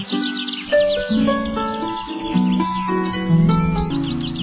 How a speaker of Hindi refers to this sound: परिंदों खुसूसन चिड़ियों की ये आवाजें बरतानिया में रॉयल मेल के एक लेटर बॉक्स के करीब सुनी जा सकती हैं, जिस पर इंतजामिया की जानिब से अब ये नोटिस चिपका दिया गया है कि इस पोस्ट बॉक्स को इस्तेमाल ना किया जाए क्योंकि इसमें चिड़ियों ने घोंसला बना रखा है।